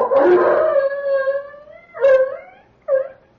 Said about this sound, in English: The dog barking. He'll get the rest of them going. The Japanese will know there are strangers in this darkened village.